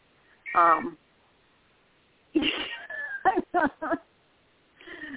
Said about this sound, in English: and I hear that we get to have a cat serenade in the background. Obviously, somebody has an opinion about poetry tonight.